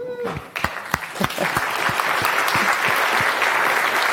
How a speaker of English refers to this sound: He's going to be talking about functional programming. Go. Round of applause for him, please.